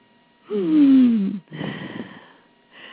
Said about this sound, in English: I was ordering something from a catalog. And that was the gal, the representative, breathing. And I said, oh, dear, do you have a cold?